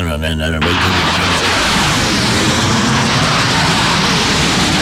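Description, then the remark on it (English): A brief spoken voice gives way to a loud, sustained roaring rush, a person vocally reenacting an Air Force plane passing overhead that drowned out a radio reporter, the noise steady and overwhelming for several seconds. “And then as he's talking, the plane is coming overhead and he was completely drowned. Let me see if I can reenact this great moment in radio.”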